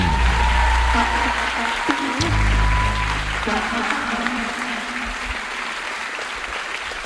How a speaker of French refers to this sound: Merci de faire une douche dorée d'applaudissements pour Queen Camille et Benjamin Nevers.